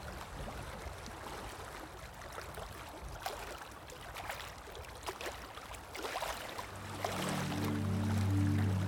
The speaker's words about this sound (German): Für eine Zeit lang höre ich nur noch das Meeresrauschen.